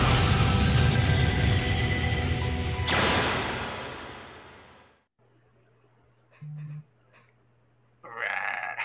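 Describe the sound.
A person imitates a roar as a welcome greeting: one loud, raspy, guttural growl lasting about three seconds that slowly trails away, followed by near silence with a low hum and a couple of brief faint noises.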